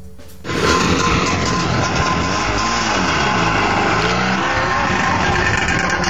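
A Trabant car engine revs loudly at the 12th national Trabant gathering near Loznitsa, its buzzing pitch climbing and dropping in repeated swells for several seconds, with no voices.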